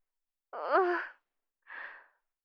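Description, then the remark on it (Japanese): A child crying softly: a single wavering, voiced sob with a quivering pitch, then a pause and a shorter breathy sniffle-like exhale. “あんた、泣いてるの？”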